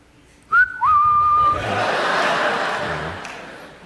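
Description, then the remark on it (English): An audience member gives a loud two-note whistle, a short high tone then a longer rising-sustained one, followed by a wash of crowd laughter and murmuring. “And she even stopped shaving her vagina area, so it's like, I know, what was the whistle area?”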